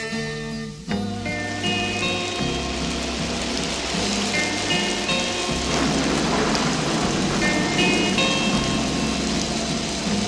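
Steady, hissing rain pours continuously through the whole stretch, blended with sustained music playing alongside it at a similar loudness.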